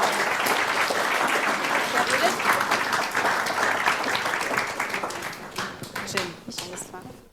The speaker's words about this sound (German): Ganz großen Applaus bitte.